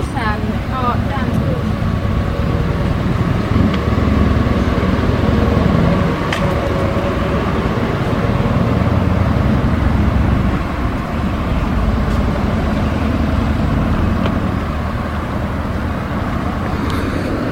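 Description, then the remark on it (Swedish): Busy street traffic on the street in front of a railway station: a loud, continuous rumble of passing cars and engines, with indistinct voices mixed into the steady city noise. “Framför järnvägsstationen där. Ganska stort pådrag med bilism.”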